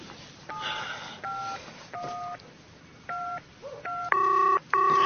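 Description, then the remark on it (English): A rapid series of telephone keypad tones, short beeping pairs pressed in quick succession, clear, ending with a couple of longer, louder tones, as someone on a walking trail dials an emergency hotline after a friend collapsed. “Where's the phone now?”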